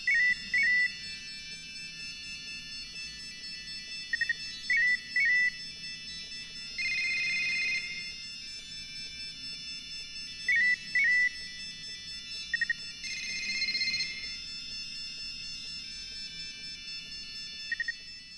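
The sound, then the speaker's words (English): Electronic cell phone ringtones chirp and trill in repeated short bursts, swelling twice into dense overlapping clusters of many phones ringing at once, with no voices. “So imagine if you were in an auditorium and 200 cell phones were ringing incessantly.”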